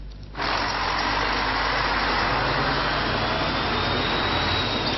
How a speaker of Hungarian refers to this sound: Egy átlagos nap Budakalász belvárosában. Arra szóló személygépkocsik és teherautók.